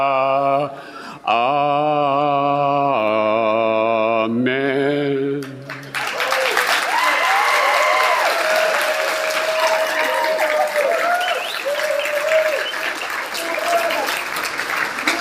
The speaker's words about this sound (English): It's very unorthodox to clap for a hymn, but I'll take it